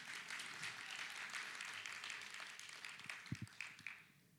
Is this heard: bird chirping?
no